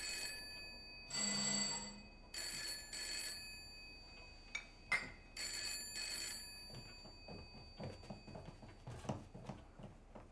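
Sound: telephone ringing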